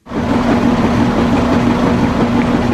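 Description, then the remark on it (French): An LG front-loading washing machine runs with a steady, loud motor hum and a constant mechanical drone, unbroken throughout, with no voices. “C'est de laveuse? Oui!”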